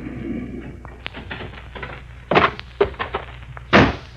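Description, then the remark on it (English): The wooden door of a solitary, weather-beaten shack creaks and rattles open, followed by several dull knocks and thuds of varying loudness, with a sharp bang near the end and low hum underneath. “The door to the shack opens, and Leif Colby, a grimy, bewhiskered old rogue, emerges.”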